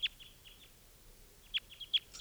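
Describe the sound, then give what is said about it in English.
Short, high-pitched chirps from two wild birds of call type 2 flying around come in quick bursts, a few sharp notes early, a pause, then a louder cluster of tweets near the end. No voices, just faint background hiss. “And the two wild birds are type 2s, and they're flying around here.”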